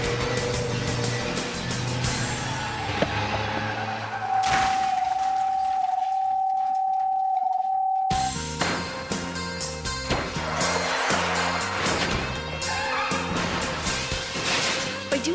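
Loud, crunching impacts from a car safety crash test with dense metallic clatter, broken by a few seconds of steady high whine before another burst of heavy smashing and rattling debris. No one speaks.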